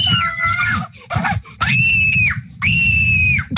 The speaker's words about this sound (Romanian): Ia, dă un play. Auzim cum țipă lumea. Ce e interesant e că e updatat permanent și uite, am zeci, sute de țipete urcate acum 3 secunde, acum 2 secunde, acum 1 secundă. Ia, fiți atenți aici, că dăm un țipăt.